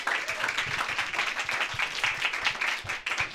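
An audience applauds steadily as the first storyteller is called up, a dense wash of overlapping claps that stays fairly loud and even throughout, with no voices standing out.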